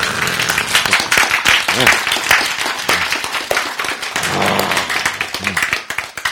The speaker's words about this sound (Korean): 박수.